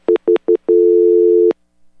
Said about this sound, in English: I heard a dial tone like a flash over to another call. Yeah, that's my operator.